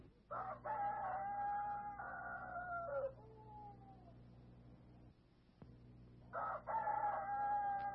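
Before daybreak, a rooster crows twice, loud, each call a long drawn-out cock-a-doodle-doo with a pause between them, over a steady low background hum.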